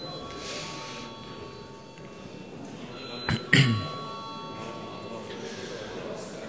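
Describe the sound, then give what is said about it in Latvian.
A short electric voting bell rings once in a parliament, calling a repeat vote after a tied result, a brief bright burst partway through, set against a steady low murmur of room noise. “Lūdzu vēlreiz zvanu.”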